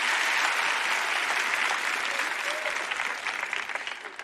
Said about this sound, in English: All right, give them a clap there.